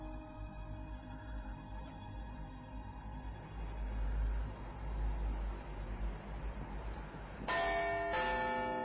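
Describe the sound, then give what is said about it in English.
A clock bell chimes the quarter hour, its sustained ringing tones hanging over a low traffic rumble before a fresh, louder strike rings out near the end. “The quarter was so long that he was more than once convinced that he must have sunk into a doze unconsciously and missed the clock, but at length it broke upon his listening ear.”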